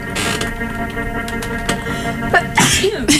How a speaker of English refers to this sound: Bless you. Thank you. Big sneeze. What can I say? I'm a sneezy gal.